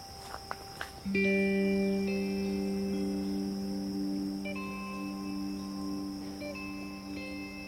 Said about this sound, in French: En fond sonore toujours ces bruits, ces cigales des forêts, ces...